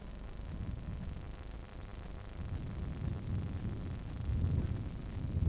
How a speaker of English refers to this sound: windy.